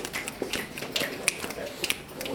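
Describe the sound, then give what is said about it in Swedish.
Sharp finger snaps from several blindfolded people walking toward a wall, listening for it, irregular and overlapping, crack out over a steady hiss of background noise, a few standing out louder than the rest. “Ni backar några steg och sen så kan ni börja med att knäppa och gå mot väggen och försöka stanna när ni kommer så nära väggen som möjligt utan att nudda väggen.”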